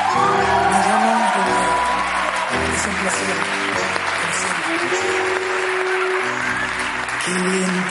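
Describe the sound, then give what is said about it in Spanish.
A crowd applauds steadily and loudly for several seconds, with scattered whoops and shouts rising above the dense clapping, and some voices mixed into the noise. “Un aplauso para la ardilla.”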